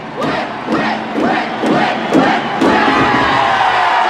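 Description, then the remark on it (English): The Hawks hockey players pound their sticks in a steady rhythm, about six evenly spaced thuds, each met by a group shout. The beat then dissolves into a sustained, loud crowd roar. “Now the Hawks pound their sticks.”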